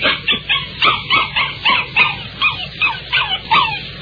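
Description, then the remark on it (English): A small puppy yaps and yips excitedly in a quick, steady string of about a dozen high-pitched barks, fairly loud, with no one talking. “The little pup just glad to see us, that's all.”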